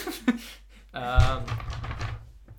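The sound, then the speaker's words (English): A hand accidentally brushes against paper: a light tap, then a soft thump followed by a brief stretch of faint rustling and handling noise. No one speaks. “I accidentally touched the paper.”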